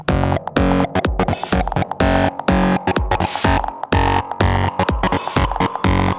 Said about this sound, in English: Okay, now, we need some fat distortion.